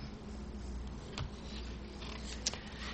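Soft rustling of paper pages being turned, with two crisper flips standing out from a low, steady shuffle. Fairly quiet, with no voices.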